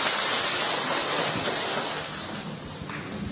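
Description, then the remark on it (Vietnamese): An audience claps steadily for several seconds to welcome a young man, a dense, even wash of many hands that eases slightly toward the end. No voices can be heard over it. “Chúng ta cho một tràng pháo tay chào người anh em này thưa anh chị em.”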